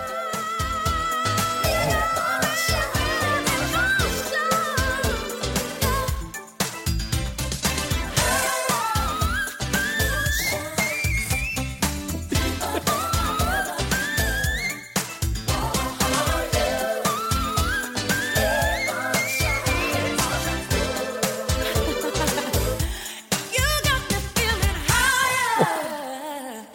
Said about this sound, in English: In many places, I think one of the great whistle tone virtuosic passages of hers is in towards the end of the song